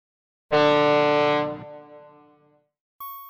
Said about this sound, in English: Ugh, where is that beeping coming from? Okay, I'm so relieved to hear that it's not just in my head. I really wasn't sure.